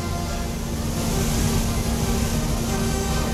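Organ blower motors in the blower room, which supply about 4,800 cubic feet of air per minute to the organ as it is played, run with a loud, steady mechanical drone, a constant low hum over a broad rushing whir, with no voices.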